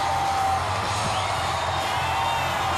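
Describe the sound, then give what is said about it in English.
A large outdoor parade crowd roars continuously, a dense wall of cheering and scattered yells and whoops at a passing fire truck amid confetti, loud and steady throughout with no pauses. “Listen wow. to the crowds. It's a constant roar.”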